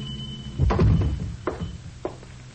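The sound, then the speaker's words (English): One of two teenage boys pushes open the door of a small, dark hardware store after 10 at night, a heavy, low wooden thunk and rattle, followed by two softer, separate thuds. There is no talking. “It's after 10 and the store is dark, but one of them pushes the door open, enter, and walk cautiously to the rear, where a small naked light bulb burns dimly.”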